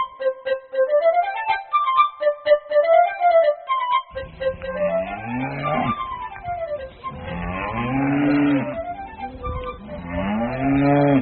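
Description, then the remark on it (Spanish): After a few seconds of light melodic tones, a cow moos three or four times in loud, drawn-out calls that rise and fall. “Buenos días, amiga vaca. ¿Qué está haciendo usted?”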